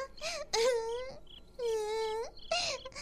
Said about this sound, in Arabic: حنان، يا حنان استيقظي، لماذا تبكين؟